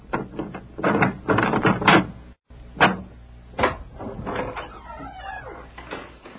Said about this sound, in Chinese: 嗯，是的，在家。我来开门。